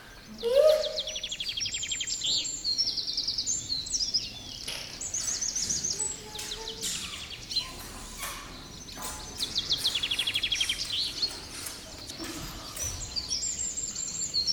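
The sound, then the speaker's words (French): Several birds chirp and sing at once, their bright, high warbles and quick tweets overlapping continuously in a lively outdoor chorus, steady in volume throughout. “Ils vivent heureux et insouciants dans ce très beau pays, toujours ensoleillé, où les animaux, comme les chevaux sauvages, les jaguars, les papillons et tous les oiseaux.”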